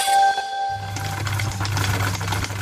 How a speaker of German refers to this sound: Was wird das mit den Nähmaschinen? Sieht ja schlimm aus, was ihr da zusammenschustert.